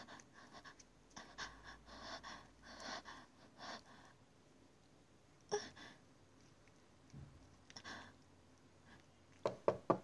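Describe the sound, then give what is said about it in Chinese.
Heavy panting breaths, then a mother knocks on a door with a few sharp knocks that land sparsely, ending with a quick double rap near the close. “你妈妈敲门，知道了，阿姨，我们马上来。”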